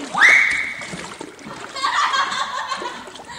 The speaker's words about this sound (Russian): Первый шумно ныряет